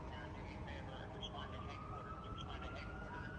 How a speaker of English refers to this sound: You can hear the cop radio... You hear sirens there in D.C.